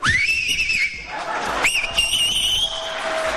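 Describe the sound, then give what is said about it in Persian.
Two loud, shrill whistles in quick succession, made by a young man with two or three fingers in his mouth, each rising then holding a piercing steady pitch, with crowd noise and voices murmuring underneath. “ببین این آقا عزم میخوام سه تا انگشتشو یا دو تاشو گذاشته تو دهنش داره سوت میزنه.”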